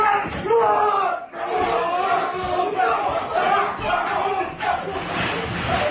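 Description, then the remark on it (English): A crowd yells and shouts over one another during a brawl with punches thrown, at 2 a.m. in New York, in a continuous, loud roar of overlapping voices, with sharp cries rising above the din and a brief dip just after the first second. “And it just really breaks out. Punches thrown.”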